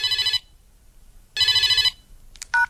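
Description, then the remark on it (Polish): A telephone rings twice in short, warbling electronic bursts separated by a pause, loud, followed by a brief click as though the handset is picked up. “no dobrze, że dzwonisz.”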